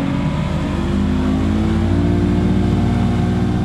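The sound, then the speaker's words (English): A motorboat engine roars on a trip through the marshes of Louisiana in Breton Sound, Plaquemines Parish, its loud, steady drone climbing slightly in pitch as it accelerates, with no voices over it. “Just to the south, I got on a boat for a look at the marshes of Louisiana. Hold on.”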